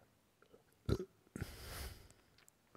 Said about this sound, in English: And if you heard, I just did a very slight burp. Some air needed to come out, so fine, come out.